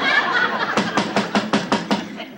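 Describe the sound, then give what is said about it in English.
A quick, even series of about seven sharp, loud knocks on a door, preceded by a brief murmur of voices. “Ooh, I think the boss will answer the door.”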